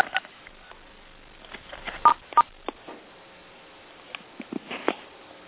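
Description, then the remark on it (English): Two quick telephone keypad tones beep in succession, clear, surrounded by soft clicks and handling taps, with no one talking, as a star code is dialed on a phone to mute or unmute the line. “I've got a mute button on my phone, so mute is star 6. And unmute is star 7.”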